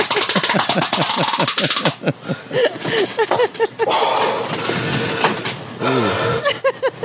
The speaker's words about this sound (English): Why the breathing? He has to breathe hard.